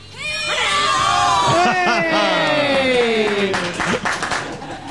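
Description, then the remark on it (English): Three girls cheer and scream outside at a bus stop, their high-pitched voices overlapping in loud, sustained squeals and whoops that rise and fall for several seconds, with some clapping mixed in. “That was from the three girls who are outside.”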